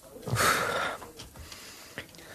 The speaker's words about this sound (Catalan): Em costa respirar.